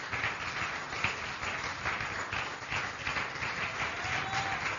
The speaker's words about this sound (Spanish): Denle un aplauso más fuerte si es para el Señor.